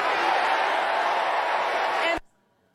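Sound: crowd chanting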